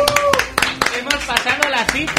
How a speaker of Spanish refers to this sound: hemos consolidado una audiencia media de 12 oyentes, así que aplausos, chavales.